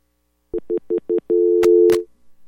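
A dial tone after a caller from Los Angeles drops off a radio show's phone line: four quick, evenly spaced beeps, then a steady held tone broken by two sharp clicks before it cuts off. Loud, with no voices.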